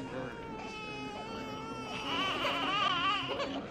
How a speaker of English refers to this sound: Why are some of the children crying? Their parents are ill or dead.